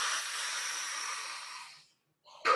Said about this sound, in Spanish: Inflo panza, pecho. Exhalo, suelto. Así es, inhalo más y exhalo, suelto, lo que sale, sin demás. Sigo respirando. Es alrededor de 30-40 respiraciones.